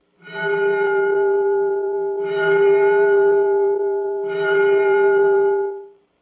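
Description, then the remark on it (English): A bell, the second in a series of bells, rings out three times at a steady pace, each strike blending into a sustained, resonant tone that hums on until the final ring fades. No voices are heard. “Now then, if you're ready, let's listen to the second bell.”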